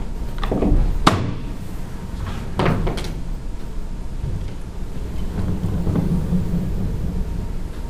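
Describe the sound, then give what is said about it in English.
Doors being opened at a board meeting, with several sharp clunks and knocks in quick succession early on, then a steady low rumble with no talking. “I have to open the doors if you guys are going to be making motions.”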